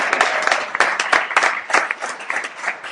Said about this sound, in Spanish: Un aplauso, claro que sí, claro que sí.